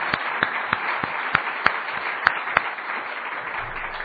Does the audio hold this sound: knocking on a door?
no